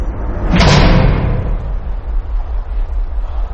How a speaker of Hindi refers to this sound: और अब रुक गई है। धोनी इधर उधर देख रहा है, प्लेटफॉर्म पर कोई भी नहीं है। अचानक एक कोच का दरवाजा खुला,